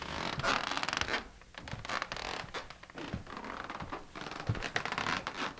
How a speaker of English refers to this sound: Talking about the sound of a bookshop. Absolutely. Starts off with a turn of the page and ends up with the creaky floorboards.